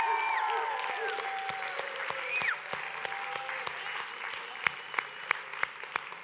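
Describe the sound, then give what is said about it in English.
An audience applauds steadily to thank their pastors, a dense wash of clapping with a few whistles early on and sharper individual claps standing out as it continues. “The first group of people, I'd like you to give just a rousing thank you by show of applause to all of our pastors.”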